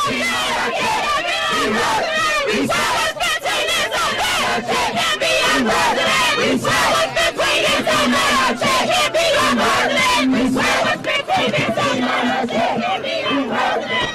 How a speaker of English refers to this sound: All right, now you can hear the crowd is sort of disappearing because he and his entourage they're walking away as fast as they can.